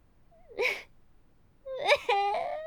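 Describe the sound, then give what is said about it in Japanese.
A girl cries and sobs in two bursts: a short wavering whimper, then after a pause a longer, higher, strained wail with a catch in it, moderately loud with no other voices. “なんで泣いてんの？”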